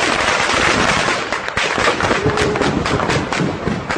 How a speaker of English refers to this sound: This is sound from a video uploaded to social media. Claims to show civilians trying to evacuate eastern Aleppo as gunfire is heard during a negotiated ceasefire.